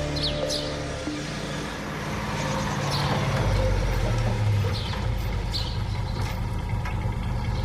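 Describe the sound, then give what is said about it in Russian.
A heavy Soviet tank engine rumbles steadily and loud throughout on a road, deep and growling, with occasional faint metallic clanks above the drone and no voices. “Was ist das hier auf dem Weg? Ist das ein Panzer? Sowjetischer?”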